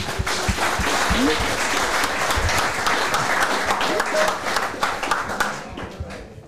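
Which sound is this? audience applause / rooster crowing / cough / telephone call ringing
audience applause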